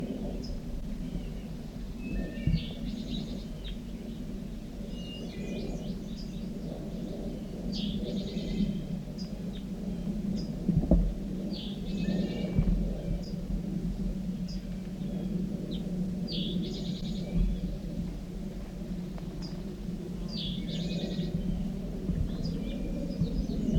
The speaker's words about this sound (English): The recording is a wild bird here. Pointing at the wild bird in the top of an oak tree. Right above the net.